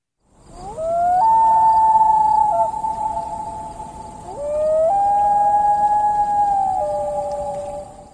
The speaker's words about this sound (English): That's the common loon, which migrates north this time of year for its breeding season.